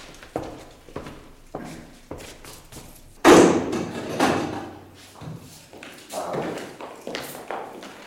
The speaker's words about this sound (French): Alors là-bas, la porte du laboratoire, sans doute. Oui, c'est bien ça.